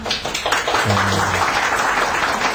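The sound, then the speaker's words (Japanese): Regular customers at the Shunko karaoke salon in Komagome, Tokyo, applaud for a few seconds, a dense, even patter of clapping at steady loudness, with a brief low voice murmuring underneath. “今日はお店には常連のお客さんがいっぱいいらしてまして、今拍手が起きました。”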